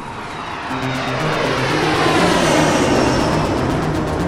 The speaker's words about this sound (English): They look up as a black jet plane slows down up above and lands behind the buildings out of sight.